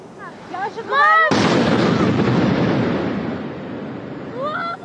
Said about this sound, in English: And Ukraine appears to be taking the fight inside Russia after explosions erupted from a drone strike in Moscow.